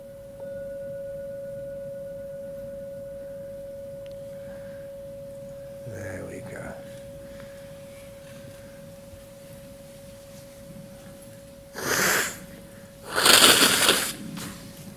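A gong rung at a meditation session gives a single steady, mid-pitched hum that sustains evenly for the whole stretch, while a few soft breathy rustles come and go underneath.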